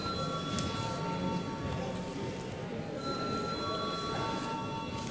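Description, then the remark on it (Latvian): A parliament voting bell rings in one unbroken, steady electric tone for about five seconds, holding an even pitch and level while low murmuring voices carry on beneath it. “Lūdzu, zvanu.”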